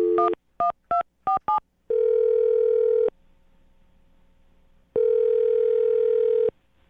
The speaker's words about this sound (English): I'm going to dial her phone number right now and get her on the phone and find out why she's not calling you back.